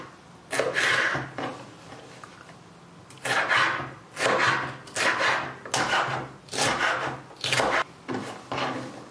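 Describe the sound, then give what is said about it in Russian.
A knife dicing a bell pepper into small cubes on a wooden board: a brief burst of cuts, a pause, then a long run of steady, crunchy chopping strokes, fairly loud with no talking. “Теперь берем болгарский перец. Его нужно небольшим кубиком порезать.”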